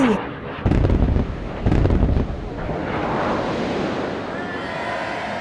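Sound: bomb explosion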